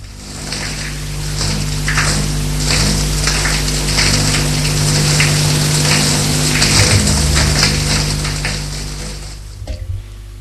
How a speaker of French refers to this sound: Il prend sa douche.